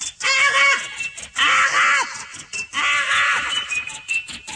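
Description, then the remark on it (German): A macaw parrot screeches three times in a row, each call a loud, raspy, grating squawk lasting about a second, with brief pauses between and no voices, introducing the Aachen radio programme Ara in its first broadcast of 15 November 1984. “So vielfarbig wie das Gefieder des Papagei Ara ist, soll und will auch das Programm des Arbeitskreis Rundfunk Aachen sein.”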